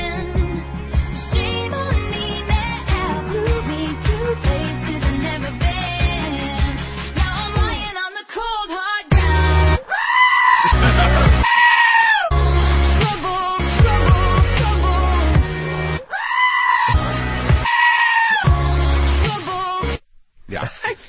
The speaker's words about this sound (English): … with the screaming goats.